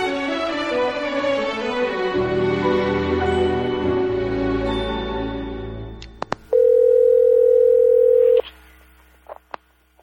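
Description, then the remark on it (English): Music fades out, then a couple of sharp clicks give way to a loud, steady telephone dial tone after a call is cut off, holding for about two seconds before cutting off, followed by a few faint clicks. “Hey, dude, did you cut me off? You hung up on me.”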